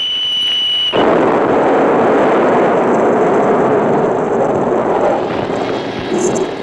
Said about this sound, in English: From my vantage point, the Saturn V has exploded into a giant mushroom cloud. Flames and shrapnel are flying everywhere, filling the sky.